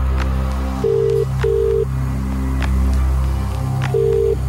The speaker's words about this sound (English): We're going to give him a call. Here we go. It's ringing.